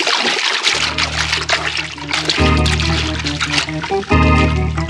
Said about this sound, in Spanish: se ha arrojado al agua. Nada silenciosamente durante un largo trecho. Y advierte cada vez más próxima la silueta siniestra del barco.